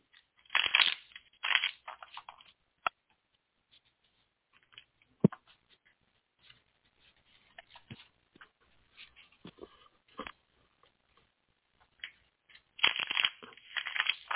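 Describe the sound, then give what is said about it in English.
Tarot cards being shuffled for a reading: dense bursts of riffling and snapping at the start and end, with softer shuffling, taps and rustles in between. No one speaks. “give me a couple seconds to shuffle.”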